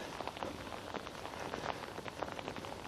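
Steady rain pattering on a jacket hood while hiking in the morning, a dense spray of tiny taps with brighter individual drops popping through, continuous and fairly loud with no voices.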